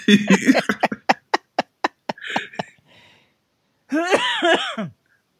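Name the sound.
man coughing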